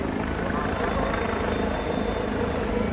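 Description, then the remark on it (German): Helicopters circle in the air over a border crossing in Austria during a police and army exercise, a continuous low throbbing rotor hum that stays loud and even throughout, with faint voices murmuring underneath. “In der Luft kreisen Hubschrauber, die im Bedarfsfall weitere Polizisten zum Grenzübergang bringen können.”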